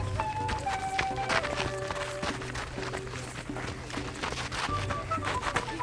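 Runners' footsteps patter on nearby dirt field roads, a steady stream of overlapping thuds from many feet, with tonal voices or music sounding faintly in the background.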